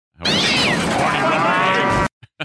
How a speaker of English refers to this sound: Yeah, cat.